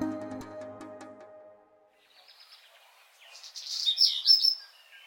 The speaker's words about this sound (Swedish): I parken kvittrar fåglarna och längs gatorna står spårvagnar uppställda, redo för ännu en morgon.